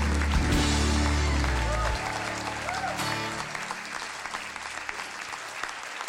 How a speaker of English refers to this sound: Come on, let's applaud the Lord.